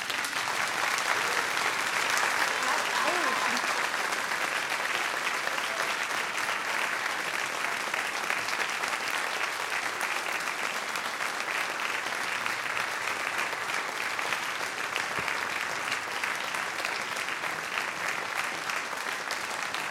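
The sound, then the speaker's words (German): A children's audience claps steadily for about twenty seconds at the end of a worship service, a dense, even patter of many hands that stays loud throughout with no talking over it. “Und ihr dürft klatschen, wenn ihr wollt.”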